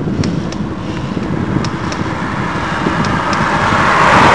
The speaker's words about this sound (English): There's a car for proof.